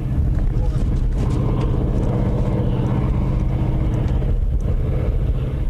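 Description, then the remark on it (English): A steady, low rumbling roar of huge ore-hauling trucks working far off near the bottom of the Empire iron ore mine near Marquette, Michigan, more than 1,200 feet deep, heard from an observation plateau; continuous and muffled, with faint wind buffeting and scattered voices in the background. “From an observation plateau, huge ore-hauling trucks near the bottom of the mine look small and only create a small roar.”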